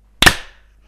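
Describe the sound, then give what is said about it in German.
A single loud hand clap with a slightly moist, faintly fart-like quality, its sharp attack fading over a short tail and then silence. “Boah, mein Klatschen hat so ein leichtes Furzgeräusch gehabt. Kennt ihr das, wenn die Hände so ein bisschen feucht sind?”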